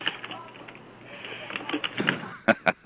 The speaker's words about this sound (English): I hear your typewriter going like crazy. Your keyboard. Sorry, I was just looking up the different Olympic sites, and I'm looking in the modern era, so I'm looking from about 1980 forward.